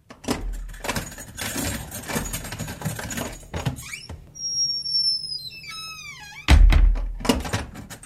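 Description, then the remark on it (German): A heavy bunch of keys jangles and clatters, a heavy metal prison door lets out a long high squeal as it swings, then slams shut with a loud, booming thunk as a robust lock engages. “Dicke Schlüsselbund, schwere Tür, robustes Schloss. So klingt ein Gefängnis von innen.”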